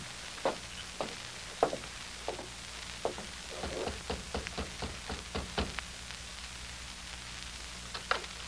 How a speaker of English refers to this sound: You're pounding on the wrong door.